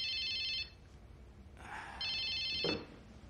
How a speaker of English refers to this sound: He stands and answers his phone.